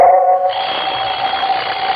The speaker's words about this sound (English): Coming awake, I heard the alarm we'd set go off. The alarm stopped.